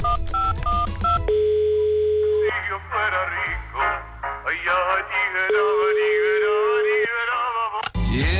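A rapid run of about five telephone keypad beeps as a call is dialed to Julio Iglesias's home, followed by a steady held phone tone; then a voice speaks over a line-like hum, with another long tone sounding underneath.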